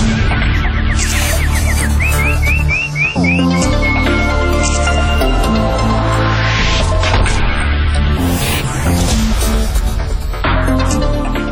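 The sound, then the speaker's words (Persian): A nightingale's warbling song, a quick run of rising chirps in the first few seconds, set over loud, continuous music that carries on to the end. “همکنون مشروع اخبار این بخش خبری را از زبان همکار جدیدم بلبل می شنوید. بلبل جان بزن چهچه قشنگه رو.”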